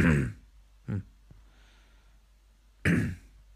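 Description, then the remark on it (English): A few harsh coughs and throat-clearing bursts from someone with a sore throat: a strong one at the start, a shorter one, a tiny click, then another loud cough after a quiet pause. No one speaks. “Oh, sorry for the coughing.”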